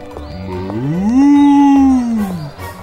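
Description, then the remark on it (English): A single long, deep moo from an ox, Mr. Ox, greeting others on the Great Wall, rising in pitch and holding steady before tapering off, loud with no talking. “Billy walks by Mr. Ox, and then they greet each other.”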